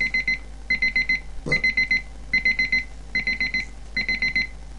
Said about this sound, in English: And the alarm should start going in a moment. We've got about a minute to wait, so there we go. Now, what you will notice about this alarm, it's not very loud to start with, but it does climb. It is gradually getting louder. As you can hear.